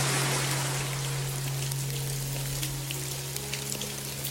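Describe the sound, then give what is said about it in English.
Steady rain patters down, a dense hiss of drops with scattered sharper taps, over a low constant hum, with no voices present. “And as you look up at the sky, as it's raining on you, it starts to subside.”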